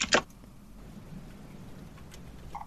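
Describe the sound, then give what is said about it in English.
A loud computer keyboard clacks sharply at the start, then a couple of softer, sparse key taps follow over a steady low background hiss. No one speaks. “Sorry if this is a loud keyboard.”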